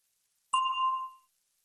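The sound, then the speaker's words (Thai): A single bell chime rings out alone as the cue to answer a question in a language lesson: one bright, struck ding with clear ringing overtones that fades smoothly over about three-quarters of a second. “ก่อนท่านจะตอบคําถามที่ว่านั้นให้ท่านรอฟังเสียงกระดิ่งดังขึ้นก่อน”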